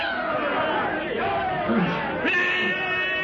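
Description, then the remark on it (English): A crazed native bearer brandishing a heavy spear leaps toward Tarzan at a campfire in the Gregory camp with a loud, sustained blood-curdling yell over a dense clamor of shouting voices, rising into a harsher, strained cry near the end. “Tarzan's companions stand petrified as the crazed black bearer, brandishing a heavy spear, leaps toward the ape man with a blood-curdling yell.”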